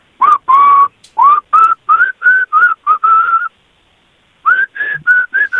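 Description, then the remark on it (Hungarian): A man whistles a melody, a quick run of clear notes in short phrases, pausing for about a second before a few more notes finish the tune, with no talking. “mit fütyülsz, mit készülsz fütyülni?”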